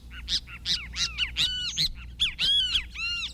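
A kiskadee flycatcher calls repeatedly, a loud series of harsh, shrill, arching notes delivered in quick bursts, with no voices over them.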